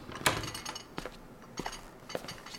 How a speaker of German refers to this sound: durchsuchte seinen Schlüsselbund und öffnete die Tür.